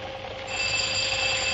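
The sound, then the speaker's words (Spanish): A doorbell at a door bearing the plate Madame Anaïs Modas rings in one unbroken burst, a bright, rattling electric tone that swells slightly louder partway through and holds steady to the end, with no voices. “Finalmente se decide a llamar.”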